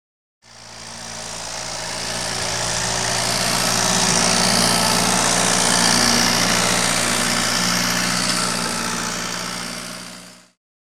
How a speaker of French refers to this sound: I can hear a tractor. J'entends un tracteur.